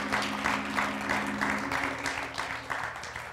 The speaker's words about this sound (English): Come on, somebody, give God a hand clap of praise.